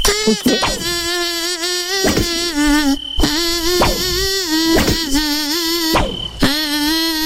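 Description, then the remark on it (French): A thin, nasal mosquito-like buzz glides up and down in pitch, tracing the melody of a song by a French band in phrases with short breaks, loud, with no talking. “Alors, le moustique chante une chanson.”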